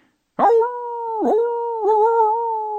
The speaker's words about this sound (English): As Collie reached the fork, howls rose in the strange air, sharp and yet somehow sickeningly sweet, like bad barbershop quartet harmony.